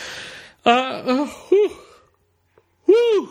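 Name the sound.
yawn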